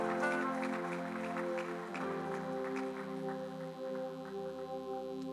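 A church audience claps steadily together for Jesus, the hand claps blending into a continuous wash over sustained organ-like music, moderately loud, with no voices standing out.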